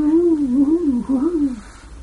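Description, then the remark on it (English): A person's voice imitates an owl, holding one steady, wavering hoot that rises and dips in pitch for over a second before trailing off, fairly loud. “Wow. The owl is in the field.”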